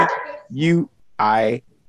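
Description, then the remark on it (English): Three loud, harmonic dog barks in quick succession, each a short tonal bark with a rising-then-falling pitch, separated by brief pauses. “The dog barking.”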